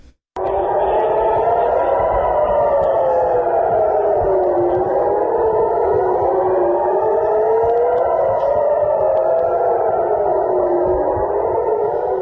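air raid warning sirens

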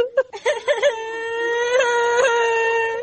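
child crying

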